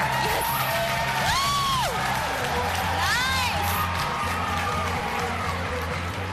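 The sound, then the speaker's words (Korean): A dense crowd at a minor league baseball game in Boston roars and cheers steadily, with rising and falling whoops and whistles cutting through and a rhythmic low thumping underneath the din. “여기 보스턴에 오니까 저도 모르게 되게 보스턴 팀을 응원하게 되는 것 같아요.”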